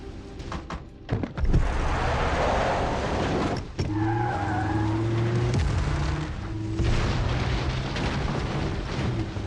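A car skids amid a loud, roaring rumble, with a couple of heavy thuds early on, then a sustained droning squeal that wavers in pitch over the noise.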